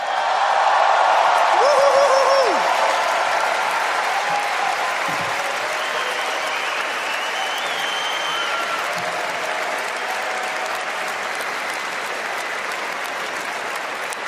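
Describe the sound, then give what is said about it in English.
A crowd bursts into sustained applause welcoming a musician to the stage, loudest in the first few seconds, with scattered whoops and a brief whistle rising over the dense clapping before it settles into a steady roar. “Please welcome to the stage with a big round of applause, ….”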